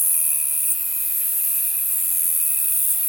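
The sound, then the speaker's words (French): A saddle-backed bush cricket (Ephippigère carénée) sings in waves: a high, shrill hissing buzz that runs almost unbroken, with a faint steady whine beneath it and only slight swells in loudness. No one speaks. “C'est l'Ephippigère carénée. Donc elle chante en vagues comme ça, c'est très très beau dans les roseaux, dans les petits buissons.”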